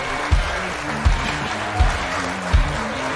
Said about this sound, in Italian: Prenditi vita, tutto questo applauso, prenditelo tutto.